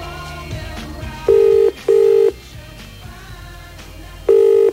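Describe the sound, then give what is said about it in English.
A telephone ringback tone sounds over a call line as someone who called and hung up is called back: a loud paired buzz, a pause, then another buzz, steady, with a faint musical hum underneath and no talking. “someone has called me and hung up in my ear. Don't do that. I'll 1471 you. It's a Mac attack callback.”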